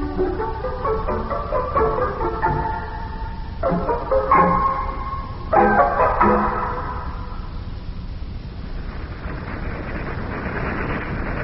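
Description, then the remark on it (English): A pack of eight dogs barks and yelps together in three or four loud bursts over a steady low rumble, then the barking falls away, leaving only the rumbling noise. “For goodness gracious sakes alive, how many of them there dogs are there in that there crowd? Well, so far there's 8 of them.”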